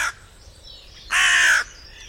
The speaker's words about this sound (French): Et écoute bien, le cri du grand corbeau est bref, alors que celui de la corneille est plus grave, fort et long.